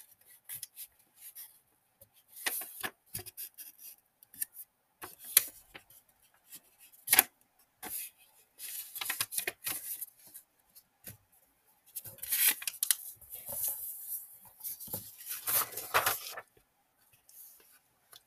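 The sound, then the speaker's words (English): Crisp paper crinkles and creases come in irregular bursts, with sharp snaps and soft rubbing as a sheet is randomly folded and smoothed by hand in freestyle origami. No one speaks. “I don't even know what I'm gonna make. I'm just gonna randomly fold, okay?”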